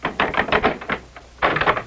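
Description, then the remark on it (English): A door on the third floor of Thornfield Hall being unlocked: quick bursts of sharp metallic clicks and rattles, a brief quieter pause, then another dense flurry of clicking, with no voices. “Unlock the door.”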